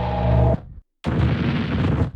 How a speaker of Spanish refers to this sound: Y un par de platos rotos con distorsión.